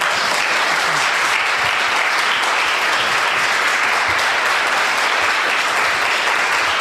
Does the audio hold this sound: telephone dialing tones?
no